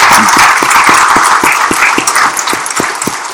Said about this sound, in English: Yes, let's give her a clap.